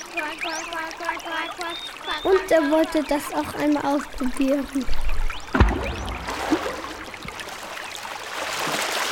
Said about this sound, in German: Als er frisch und sauber war, sah er zwei Gänse. Sie planschten und flatterten ganz lustig im Wasser rum.